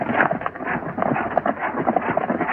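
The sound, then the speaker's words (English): A gang of four mounted men galloping together on horseback along a trail, their hoofbeats blending into a dense, steady rumble that stays fairly loud and muffled throughout, with no voices. “As Nellie passes, the gang rides out after her.”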